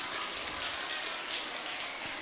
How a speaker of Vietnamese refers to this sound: Rồi bây giờ cho một tràng vỗ tay thật lớn để hứa nào.